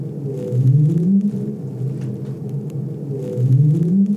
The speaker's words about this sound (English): Can we hear what these sound like? Sure. This is a right whale sound. So right whales make an upsweep. Yeah. We can detect those pitch tracks really well.